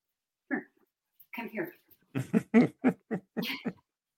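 puppy making noises

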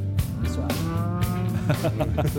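cow mooing

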